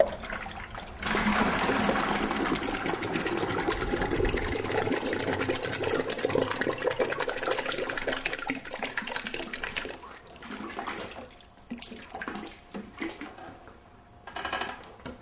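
A paper artist making handmade paper: beaten fibre pulp sloshes and churns in water, a loud, steady wash of splashing for about ten seconds, then it eases into quieter, intermittent dribbles and swishes. No one speaks.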